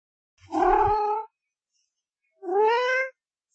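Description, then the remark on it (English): A kitten in a pet shop meows twice, clear, with a short pause between the two drawn-out cries and no other sounds around them. “Here's a lovely kitten, the woman said.”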